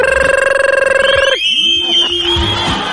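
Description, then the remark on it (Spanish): An alarm clock rings loudly with a rapid, steady electronic trill for just over a second, then stops abruptly and gives way to warbling, sliding tones and a voice. “Cuando uno se da vuelta, está soñando con la J-Lo y sonó el despertador.”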